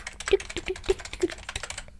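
Rapid, irregular clicking of fingers typing on a computer keyboard, fairly crisp, with a few sharper keystrokes standing out over about two seconds.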